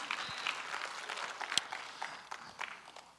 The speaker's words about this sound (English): Somebody shout amen. Give the Lord him a hand clap one more time as you're seated.